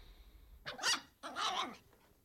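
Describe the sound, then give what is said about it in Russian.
A small toy dog gives two sharp, snarling barks in quick succession, mixed with a rough growl, fairly loud with no one talking. “Собака норовила схватить их за рукав, как воровок.”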